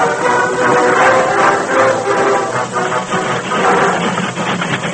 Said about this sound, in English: Stop that train. What's the racket? Stop the train, I tell you.